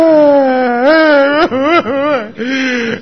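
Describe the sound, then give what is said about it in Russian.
A person loudly imitates an exaggerated crying wail, a long wavering moan that dips and breaks a few times before trailing off, with no other talk. “Даже если выкинут из дома, то для того, чтобы что, там два часа они в день походят, там, еще специально плачет, там сидит, чтобы в окно видели.”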